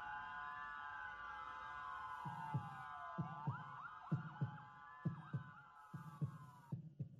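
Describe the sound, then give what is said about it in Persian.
A steady heartbeat thumps in paired low beats, growing more regular and prominent, over a sustained tonal hum that glides up and down like a wavering synth or siren, opening a health and medical program titled Zarban (Heartbeat). “ضربان”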